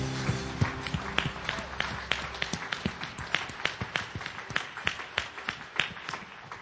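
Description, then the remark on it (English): An audience at a morning service applauds with a steady patter of overlapping hand claps, sharp individual claps popping out now and then. The clapping holds at a moderate level throughout with no talking. “Come on now, give them a great clap offering this morning.”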